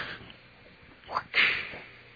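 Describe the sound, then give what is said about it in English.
A whip crack sound effect: a quick swishing whoosh immediately followed by a sharp, bright snap, fairly loud, standing alone against a faint hiss with no talking. “Fuck you, whip.”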